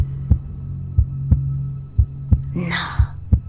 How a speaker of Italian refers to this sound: Stai ascoltando il mio battito cardiaco?